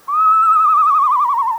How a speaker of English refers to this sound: But very few owls actually make that noise. They have such a wide variety of sounds. They sound like a horse. Like the eastern screech owl.